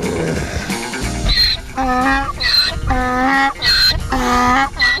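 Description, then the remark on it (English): A donkey named Happy brays loudly, a rhythmic run of hee-haws alternating shrill high squeals with lower, raspy honks, repeating four or five times without pause. “Is that your donkey?”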